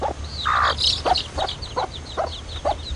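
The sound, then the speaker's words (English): Chickens cluck in a string of short, evenly spaced calls while chicks peep in high, thin chirps, all over a steady low background rumble. The chickens and chicks survived a flood in a lower-lying area down the street. “Down the street, in a lower-lying area, some chickens and their chicks managed to survive the flood.”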